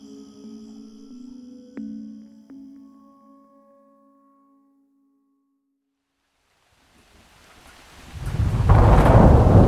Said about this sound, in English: A sudden clap of thunder made Kenny snap awake.